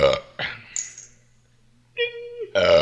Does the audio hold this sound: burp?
yes